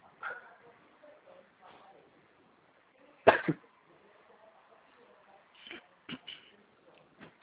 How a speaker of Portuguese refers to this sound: Tá cuidando dessa tosse aí